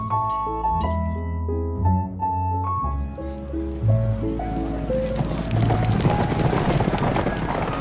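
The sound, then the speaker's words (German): Horse hooves clip-clop with a coachman's carriage rumbling along as it is told to drive off, the steady trotting growing busier over music before fading as it moves away. “Kutscher? Fahren Sie! Los doch!”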